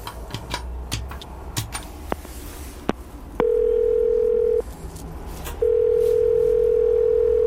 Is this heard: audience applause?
no